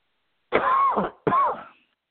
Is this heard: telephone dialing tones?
no